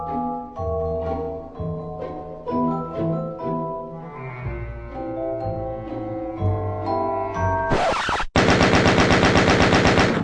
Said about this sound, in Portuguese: Teve uma época que eu joguei tanto Doom, tanto, que eu fiquei com aquele som de tiro dele na cabeça, aquele bum, bum, bum, bum. Você não para de atirar, né, cara? Toda hora você tá atirando.